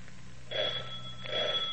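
A house doorbell rings twice in quick succession in the morning, each ring a steady, bright, high-pitched tone with a buzzy undertone, as someone goes to answer it. No one speaks, and a low hum sits underneath.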